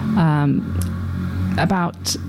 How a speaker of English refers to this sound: That was a very noisy motorbike that went past.